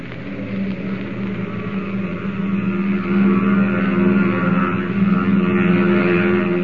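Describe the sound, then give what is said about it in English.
A steady, droning roar of an aircraft's special engines with a low humming pitch, swelling louder about halfway through as the engines rev up for a night takeoff on a test flight. No voices are heard. “As the giant steel bird pierces the curtain of night and roars upward on its test flight”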